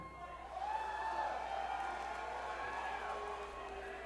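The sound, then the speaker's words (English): An audience boos Quebec together in a sustained, wavering drone of voices that swells within the first half second and holds steady for about four seconds. “Are you booing Quebec?”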